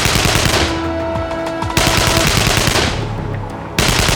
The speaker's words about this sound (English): Following Fyodorovich's opening volleys, his men opened a firestorm of gunfire.